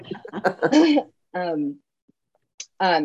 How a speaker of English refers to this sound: I was trying to keep the coughing quiet.